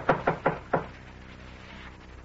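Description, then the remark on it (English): Four firm knocks on a door in a quick, slightly uneven rhythm, each a sharp low-mid thud, followed by quiet hiss with no voices. “You just stay in that chair, Mayfield, while I... No, Randy. While I answer the door.”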